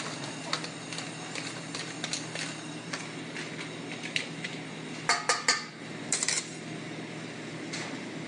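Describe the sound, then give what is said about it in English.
A knife taps and slices against a cutting board as orange supremes are cut, with irregular sharp clicks that bunch into a quick, louder burst of chops near the end. No one speaks. “All right, so I'm cutting a couple orange supremes.”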